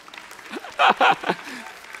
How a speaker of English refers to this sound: You better clap because it's not about dancing.